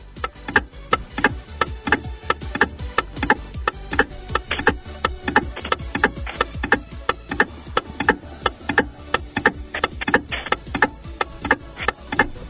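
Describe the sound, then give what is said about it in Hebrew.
A steady, rhythmic ticking of a 20-second countdown clock runs throughout, evenly spaced sharp clicks over a dense musical backing with low pulses, fairly loud. “שעון מתקתק, 20 שניות.”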